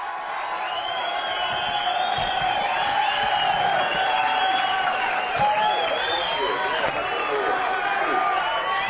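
crowd applause and cheering

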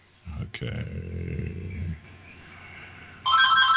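phone ringing

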